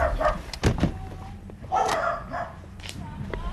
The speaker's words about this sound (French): En fait, j'ai tellement peur. Des chiens, ouais.